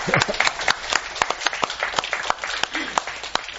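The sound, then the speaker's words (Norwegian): A small audience applauds, many hands clapping in a dense, uneven patter with a few sharper individual claps standing out, steady for a few seconds. “Vi kan klappe da.”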